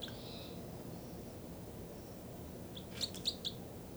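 Two birds, numbered 305 and 306, call back and forth: a faint, drawn-out whistle early on, then a quick series of three or four sharp, high chirps near the end over a low, steady background rumble.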